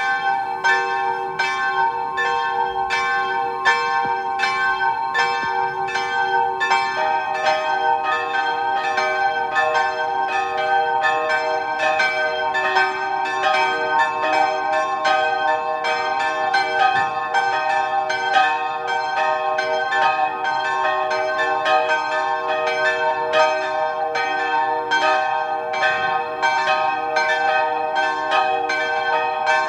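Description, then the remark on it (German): Several church bells of the convent church of the Sisters of Mercy in Zams, Tyrol, ring together at noon in a continuous, overlapping peal, their rich metallic tones sustained and layered with steady repeated strikes throughout, loud with no voices present. “Sie hören die Glocken der Klosterkirche der Barmherzigen Schwestern in Zams in Tirol.”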